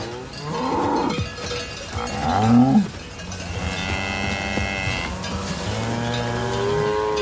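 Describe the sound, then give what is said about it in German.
Several cows moo in overlapping, drawn-out calls, one especially loud and rising mid-clip, with a low steady rumble underneath like traffic or machinery. “Ich mag Kühe. Ich bin unter Kühen aufgewachsen, in einem Dorf namens Aslamoor, ein 200-Bauernseelendorf in der norddeutschen Tiefebene.”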